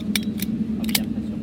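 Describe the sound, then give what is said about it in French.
A seatbelt buckle clicks shut in a few quick, sharp metallic snaps, coming in two short bursts, over a steady low cabin hum, aboard an airplane before takeoff for New York. “Attache ta ceinture.”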